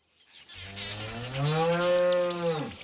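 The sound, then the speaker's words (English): A Jersey cow on a dairy farm moos once in a long, loud, drawn-out call that rises and then falls away, with no other voices. “She doesn't give her Jersey cows any growth stimulants or antibiotics and never sprays her land with pesticides.”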